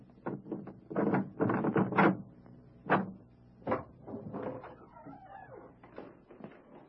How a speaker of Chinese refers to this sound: 嗯，是的，在家。我来开门。